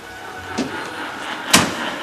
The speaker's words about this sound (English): Later, in the basement, he measures laundry detergent and pours it into the washing machine. He slams the machine door shut and sets the cycle dial.